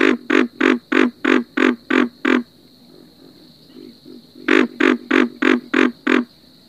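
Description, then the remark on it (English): Deep, pig-like grunting calls from a pig frog come in two rapid bursts of about eight loud, evenly spaced croaks, separated by a brief pause with softer grunts. “Pig frogs sound very much like the grunting of a pig, so it's easy to remember.”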